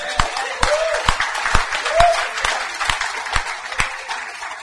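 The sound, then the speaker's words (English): A crowd at a Christian church session applauds steadily, giving the Lord a hand clap, a dense wash of many hands clapping with a few sharp, louder individual claps popping out at irregular intervals, sustained for several seconds with no one speaking. “Let's give the Lord a big hand clap, guys.”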